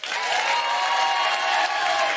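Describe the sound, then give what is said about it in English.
A live audience in Swansea claps steadily to show who speaks the Welsh language, a dense wash of many hands with a few cheers mixed in, sustained and fairly loud throughout. “Who, by way of applause, speaks the Welsh language?”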